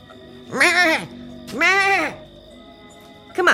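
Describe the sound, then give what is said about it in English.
A little goat that has broken out of its pen bleats twice, two loud wavering calls about half a second each, and a third bleat begins just as the sound cuts off. “Hey, little goat! Goat!”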